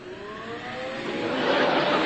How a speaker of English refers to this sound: Now, getting back to the vacuum.